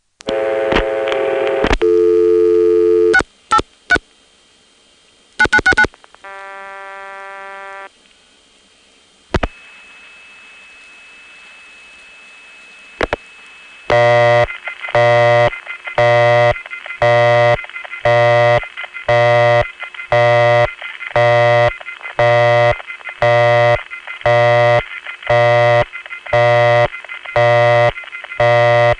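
A harsh busy signal from a crossbar 1 telephone exchange, resembling the KI-8 busy signal and distorted by a tape recorder, pulses on and off at a steady rate, loud and buzzy. It is preceded by line clicks, a steady tone and other switching sounds.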